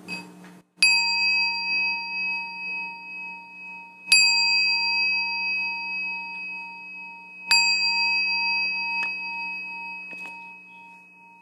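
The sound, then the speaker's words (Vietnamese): A meditation bell is struck three times at slow, even intervals to begin a session on the fourth day of a meditation retreat in Orange County, California, USA, each clear metallic tone ringing out and sustaining with a long, shimmering decay before the next strike. “chúng ta lắng nghe tiếng chuông mình bắt đầu.”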